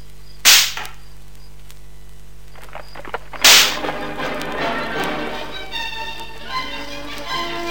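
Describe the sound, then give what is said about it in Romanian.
Two sharp, loud whip cracks from a coachman whipping the horses of a carriage ring out about three seconds apart; after the second, a steady rattling, rumbling clatter carries on to the end. No one speaks. “Dați bice cailor, viziti.”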